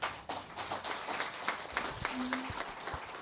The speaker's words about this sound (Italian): E su questo applauso termina la prima parte del nostro programma.